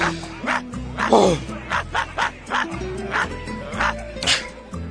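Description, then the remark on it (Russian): A small dog barks and yips repeatedly in quick, uneven bursts, loud, with a low steady hum running underneath throughout. “Уберите собаку, Саша!”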